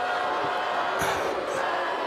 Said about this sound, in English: He queued that boo up just for me.